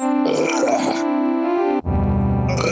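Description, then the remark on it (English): Two long, loud, drawn-out burps in a row, the second deeper and rumblier, with a distorted, echoey processed quality, without any talking. “Stop burping, bitch.”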